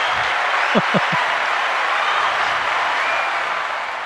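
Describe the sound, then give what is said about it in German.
A canned applause sound effect: a steady, dense wash of clapping from a crowd, sustained at even loudness for about four seconds, with a couple of brief shouts early on. “Hey, Mandel. Hey, Applaus.”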